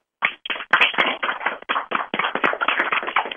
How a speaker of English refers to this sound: I want everybody, I'm going to unmute the lines, I want everyone to give a round of applause for our special guest tonight, Barry Morrow.